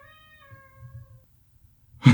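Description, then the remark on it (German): A squeaking door on the other side creaks in one long, drawn-out squeal that slowly sags in pitch over a low rumble, then a sudden loud burst of noise cuts in at the end. “Das war eine Tür, eine knatschende Tür.”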